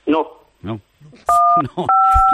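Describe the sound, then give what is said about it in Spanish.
A steady electronic beep sounds twice on a telephone line, each tone lasting a fraction of a second, loud and clear over a man's ongoing speech. “Digo, que estaba sonando ahí un pitido ahí de fondo.”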